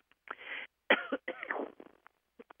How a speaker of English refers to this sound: I'm so sorry. I started coughing.